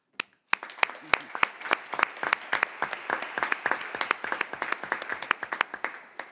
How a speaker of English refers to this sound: I'm very delighted that Togo submitted yesterday its instruments of accession, and I suggest we applaud now.